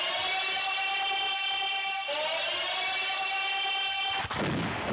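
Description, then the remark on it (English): A subway train's loud, sustained electric whine, layered tones holding steady, then stepping up in pitch midway, before breaking into a brief rushing noise near the end. No one speaks. “It's the subway, man.”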